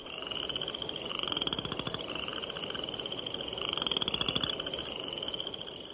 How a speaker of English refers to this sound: spring peepers whose once-per-second ascending peeps can be heard day and night, and western chorus frogs whose call is often compared to the sound produced by running a stick over the teeth of a comb.